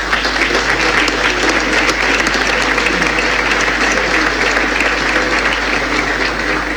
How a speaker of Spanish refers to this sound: Y es un mérito de todos ustedes, yo pido un aplauso para todos ellos